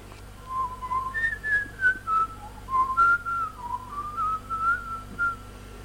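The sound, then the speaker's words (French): Someone whistles a lilting, casual tune, the pure tones gliding between notes in short phrases with little breaths between them, clear over a faint low hum. “Il le vit enfin s'en aller, en sifflotant vers la rivière.”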